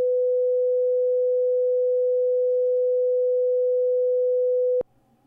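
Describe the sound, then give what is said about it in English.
A steady, pure 500 hertz test tone holds at constant loudness for nearly five seconds, then cuts off abruptly with a faint click, leaving quiet background noise. “And to give you an idea of what that sounds like, we're going to play a few examples of what certain tones sound like. This is an example of 500 hertz.”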